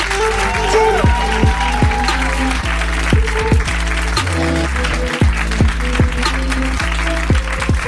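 Steady, dense audience applause fills the whole stretch, a continuous crackle of clapping hands heard over a rhythmic music track with a regular thumping beat.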